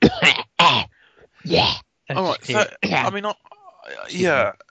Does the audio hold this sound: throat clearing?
yes